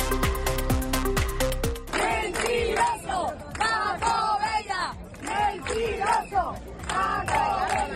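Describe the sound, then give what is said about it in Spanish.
Hundreds of residents of Matalascaña protesting, shouting 'mentiroso' at Paco Bella, in a large crowd that shouts and chants together in loud, rhythmic bursts rising and falling every second or so. The chanting is preceded by a short burst of rapid, regular pulses. “Pues ya lo ves, al grito de mentiroso Paco Bella, cientos de vecinos de Matalascaña se han manifestado hoy contra la zona hora.”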